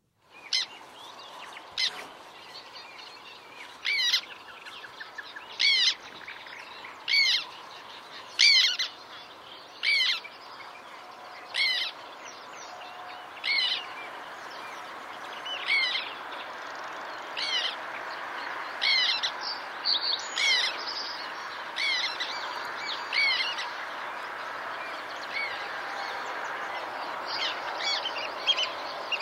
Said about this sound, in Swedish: Ja, men så vad var det där för gnisslande läte man skulle lyssna efter om man är på en svart tärnelokal? Jo, det här.